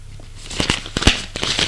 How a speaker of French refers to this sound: Sort la lettre de l'enveloppe et voit qu'elle est de John.